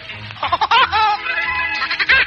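A cartoon woodpecker's laugh from a song recording: rapid, high-pitched, bird-like cackling in quick bursts over a musical backing, loud and close, with no one speaking.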